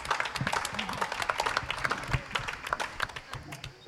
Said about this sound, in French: Donc je vous demande encore une fois de les applaudir. En direct du Festival d'Avignon.